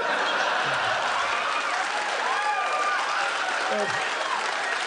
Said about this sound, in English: Don't encourage me. I think they're just applauding the payoff.